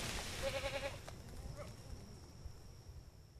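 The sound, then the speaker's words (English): A goat lets out a short, quavering bleat, followed by a fainter call against steady outdoor rustling and wind noise. “So the goats come in, the only thing they leave is hoof prints and fertilizer.”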